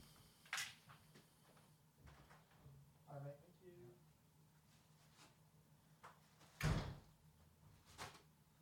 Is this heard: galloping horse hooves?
no